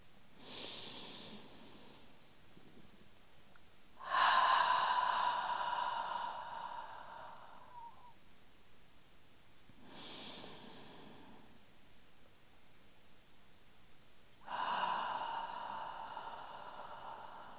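Four slow, deep breaths alternate between airy inhales and longer, fuller exhales, each lasting two to four seconds with quiet gaps between. The rhythm is calm and unhurried, and no one speaks.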